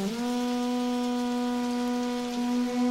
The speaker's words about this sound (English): I'm just going to go ahead and play this for you, this AFX group here. You hear the lightning? Listen to the rain on the armor, the metal helmets. Listen to how wonderful that detail is.